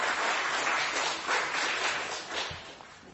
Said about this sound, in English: And following that lukewarm round of applause,